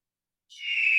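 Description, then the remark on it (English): After half a second of silence, a single high, piercing eagle cry sound effect rises in and swells louder, holding a strained, screechy tone right up to the end. “There it is. The majestic eagle.”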